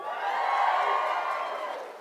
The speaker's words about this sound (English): I was like, I heard more boos. You all got shamed out of booing.